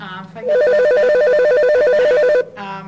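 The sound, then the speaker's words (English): A loud telephone rings in a rapid electronic warble during a Parks and Recreation Advisory Board meeting, a single burst of about two seconds, with voices talking faintly just before and after it. “Answer the phone.”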